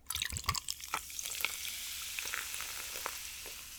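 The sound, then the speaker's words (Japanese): A fizzy drink being poured: dense, crackling hiss of bubbles that starts with a few sharp pops and splashes, then settles into a steady, bright sizzle for several seconds with no talking. “シュワシュワよし、注ごう。”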